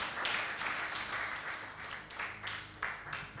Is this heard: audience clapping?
yes